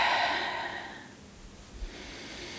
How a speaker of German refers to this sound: Nehmt einmal einen ganz tiefen Atemzug durch die Nase. Die Nase filtert nämlich die Luft, von daher durch die Nase ein und durch den Mund aus.